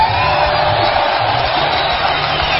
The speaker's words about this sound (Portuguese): Vamos aplaudir! Vamos lá, quem merece?